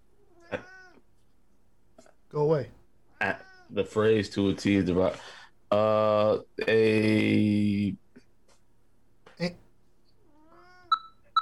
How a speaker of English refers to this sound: What up, buddy? Meow.